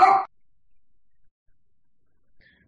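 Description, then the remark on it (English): A dog gives one short, sharp, loud bark at the very start, followed by near silence with only a faint, brief sound toward the end. “I'm sorry, my tech dog barking.”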